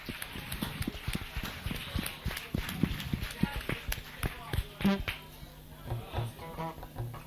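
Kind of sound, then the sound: crowd, audience applause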